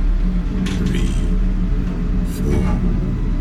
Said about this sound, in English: The only sound in the lift was the gentle whir of the mechanism.